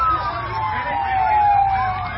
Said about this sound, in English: The sound of sirens and shouting as people rush to the scene of a plane crash in Cuba. The 39-year-old airliner with 110 people on board crashed and burned just after takeoff from Havana Airport.